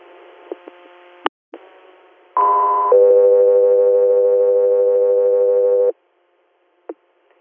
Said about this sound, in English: stand by for tones.